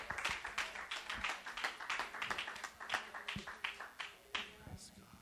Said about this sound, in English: Praise God. Praise God. Hallelujah. Give the Lord another praise clap.